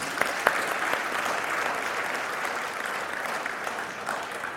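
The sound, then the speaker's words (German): Sustained audience applause for all the mothers in the room during a sermon, a dense, steady wash of many hands clapping at an even level for several seconds, with a few sharper individual claps standing out near the start and no talking. “Der Applaus galt nochmal allen Müttern hier im Raum, die das so leben.”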